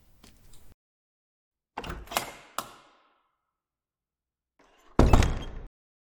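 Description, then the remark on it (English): A door works open with a few mechanical clunks and rattles, followed after a pause by a louder, heavier thud. No voices are heard. “Please wait for the door to open after I leave.”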